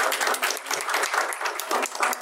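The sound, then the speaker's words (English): A small group applauds for a couple of seconds, a dense, steady patter of many hands clapping with no one speaking. “You guys give a small round of applause for here.”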